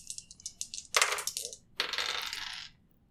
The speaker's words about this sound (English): I'm returning these dice to the store. I'm not joking. That's a 95. Nice. Stop rolling your dice. 35. They won't roll like that for me.